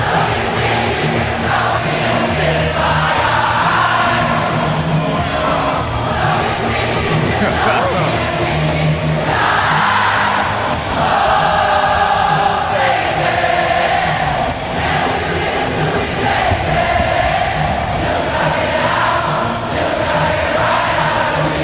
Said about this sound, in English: Now that would have been amazing to be in that crowd, because the concert hasn't even started. Wow. Already you have the sense of camaraderie around you as 65,000 people are singing a song together, huh?